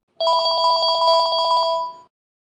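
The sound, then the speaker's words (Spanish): A telephone bell rings in a rapid, steady trill lasting nearly two seconds, loud, with no voices. “Sonó el teléfono.”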